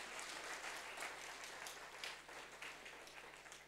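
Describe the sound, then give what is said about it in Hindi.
An audience breaks into steady applause, many hands clapping together in a dense, continuous patter that holds for several seconds at a moderate level, with no talking over it. “ताली बजाइए.”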